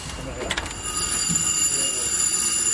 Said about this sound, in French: C'est coincé. Attends, il y a la sonnerie qui s'est coincée.